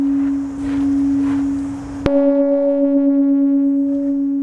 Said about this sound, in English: A peace bell echoes over the silent crowd, remembering the 51 men, women and children whose lives were snatched away